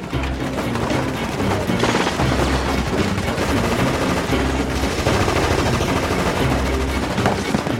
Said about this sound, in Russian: По колонне сверху, с берегов оврага, солдаты ведут плотный пулеметный огонь. Повстанцы отстреливаются, пытаются организоваться, но тщетно.